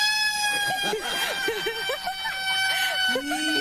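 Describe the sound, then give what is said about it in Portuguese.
A man belts out an imitation of Tarzan's jungle yell, his voice rapidly rising and falling in a long yodeling whoop, loud, over a steady droning tone in the background. “Será que tem diferença no grito dele pro verdadeiro Tarzan, o rei das selvas?”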